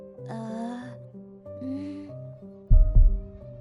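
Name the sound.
pounding heartbeat sound effect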